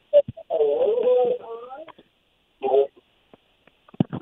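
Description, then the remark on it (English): A radio left on at a caller's end of a phone line plays in the background, causing an echo. Its thin, tinny voice comes in short bursts with gaps between, followed by a few faint clicks and knocks at the end. “There's an echo coming from your end. Is there a radio on?”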